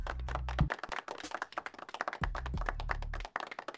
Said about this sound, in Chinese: 大家再次掌声祝贺。